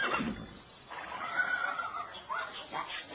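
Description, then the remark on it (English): A horse whinnies in a long, wavering call lasting a few seconds, moderately loud, with its pitch rising and falling before trailing off. The horse is in a stable on a farm in the countryside. “That was just the horses and donkeys that are in the stable.”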